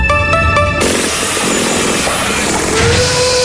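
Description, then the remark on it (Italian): Construction site noise with loud power tools, including a concrete mixer and modern equipment made by Ames: a high-pitched whining machine roars for the first moment, then a steady, dense mechanical racket of machinery continues, with a rising motor whine near the end. “Gianni, anche tu a guardare questo cantiere? Bello, eh? È bello, sì. Hai visto che bella betoniera e quante attrezzature moderne.”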